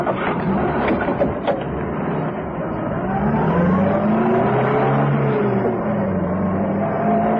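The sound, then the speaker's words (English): A car engine revs and accelerates hard as it sets off in pursuit of another car, its steady roar climbing in pitch across several seconds, loud and continuous with no voices over it. “it's a new Crescent Saloon. Bright red.”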